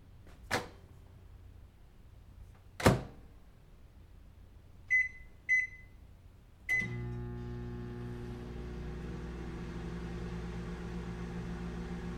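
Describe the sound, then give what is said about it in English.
A microwave oven door clunks shut with a couple of sharp thuds after a flash drive is put inside to destroy it, two quick electronic beeps follow, then the oven starts with a click and settles into a steady low hum that continues to the end. “Here, stick it in the microwave.”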